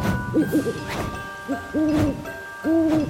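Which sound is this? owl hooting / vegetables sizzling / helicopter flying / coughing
owl hooting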